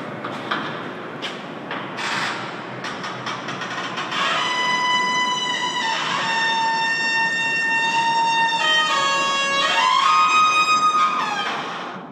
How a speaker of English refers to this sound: And this is a door. It looks like it's in a parking garage, and it's a door that sounds like … playing the trumpet.